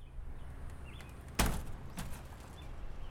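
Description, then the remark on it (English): The screen door of a vacant house on Windcrest Drive in Davis County swings open and knocks with one sharp clatter, then a softer second tap, over a steady low rumble of wind on a windy but sunny day, with faint bird chirps and no talking. “The screen door of a now vacant house swings open on a windy but sunny day on Windcrest Drive in Davis County.”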